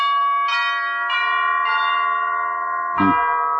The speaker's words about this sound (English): Wow. Look at the size of this mansion. Tremendous. Ring the bell, will you?